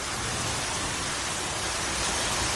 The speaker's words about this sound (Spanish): Es la lluvia que cayó ayer a gusto en todo el sur de la comunidad y se cebó especialmente con Cien Pozuelos, convirtiendo las calles en rápidas torrenteras, inundando garajes, comercios, hasta una parroquia.